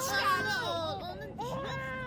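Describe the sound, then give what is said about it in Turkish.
A baby who has just woken up cries in continuous, wavering wails, pausing briefly for breath midway before starting up again, fairly loud and with no other voices. “Ağlama canım, ağlama. Sən nə tez uyandın.”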